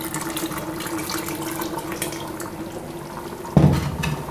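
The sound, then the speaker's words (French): Cooking oil, the same oil used to grill chicken thighs, pours into a pot of simmering food with a steady, soft liquid trickle over a faint low hum, then a sudden louder splash near the end as it hits the pot. “Maintenant, je vais ajouter de l'huile.”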